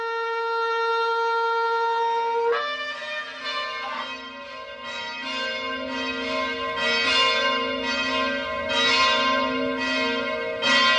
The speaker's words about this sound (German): Der Klang von der Kirche Glocke lässt sich nicht einfach so beschreiben. Man muss es einfach hören, man muss es erleben. Jede Kirchenglocke hat ja auch einen Namen, zumindest bei uns in der Antoniuskirche.